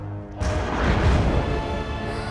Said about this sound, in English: A lightning bolt sends electricity blasting down next to her.